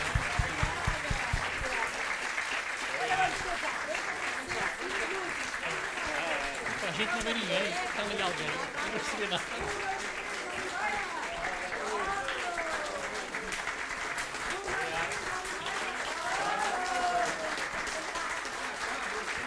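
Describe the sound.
Sustained audience applause fills the whole stretch, a dense, steady clatter of many hands clapping at an even loudness, with a murmur of crowd voices and some cheering woven through it.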